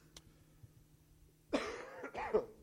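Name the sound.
cough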